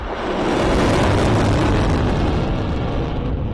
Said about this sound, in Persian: قرش موشک های نقطه زن سپاهیان اسلام است که بر سر فرماندهان تروریست های تکفیری در استان دیر الزور سوریه فرود می آید.